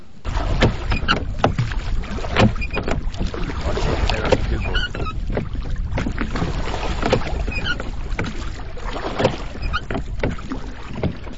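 Oars dip and pull through water in a steady rhythm, each stroke a close splash and swirl over continuous lapping and light wind noise, with no one speaking.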